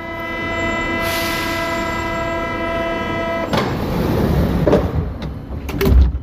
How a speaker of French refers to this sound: Mesdames et messieurs, notre train à destination de Paris-Austerlitz va partir pour des gardes à la fermeture des portes à jonction des bas.